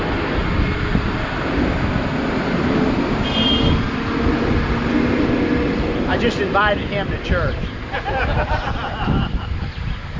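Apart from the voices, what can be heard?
tractor driving past outside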